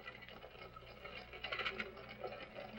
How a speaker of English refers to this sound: I'm drenched to the skin. How long do we have to stand here in this beastly rain?